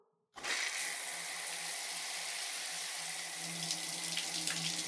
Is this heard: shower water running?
yes